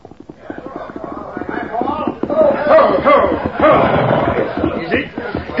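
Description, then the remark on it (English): Horse hooves clip-clop steadily as a man on horseback rides up a town street to a hitch rack and dismounts, growing louder, with indistinct voices murmuring underneath. “Man and horse ride up, dismount.”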